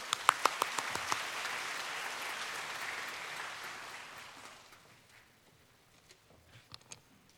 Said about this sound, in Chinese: 让我们用热烈掌声去鼓励。